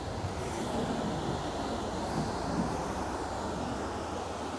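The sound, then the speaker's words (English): A steady, continuous rumble of a passenger train rolling along coastal tracks beside the Pacific Ocean in San Diego County, with a broad low roar and hiss holding at an even loudness throughout and no voices. “The train track comes really close to the Pacific Ocean here.”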